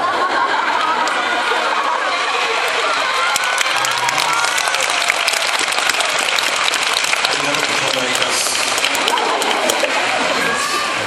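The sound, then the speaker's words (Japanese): An audience in Nagoya cheers and applauds continuously, a dense wash of clapping mixed with shouts and whoops that stays loud and steady for the whole stretch, with no single voice standing out. “よくまあこんな私たちにこんなそんな声援をね。”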